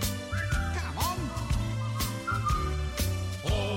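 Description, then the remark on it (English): A cheerful tune is whistled over a full band backing, with a steady drum beat and bass. The whistled melody glides between notes, mid-level and clearly on top of the accompaniment. “When you're feeling in the dumps, don't be silly chumps, just purse your lips and whistle, that's the thing.”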